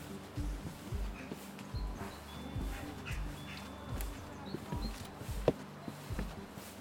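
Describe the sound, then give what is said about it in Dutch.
Steady footsteps crunch along through a garden at an even walking pace, each step a soft thud, while a faint bird call drifts in the background. “We lopen wat verder de tuin in en komen uit bij een vreemd uitziend wc-hok.”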